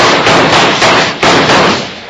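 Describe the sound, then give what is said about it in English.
Several loud gunshots, fired at Hickok, crack in quick, uneven succession, each a harsh burst with a rough ringing tail that blurs into the next; no one speaks. “Bill! It's Hickok. Shoot,”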